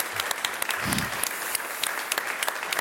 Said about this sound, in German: Ja. Das ist Ihr Applaus.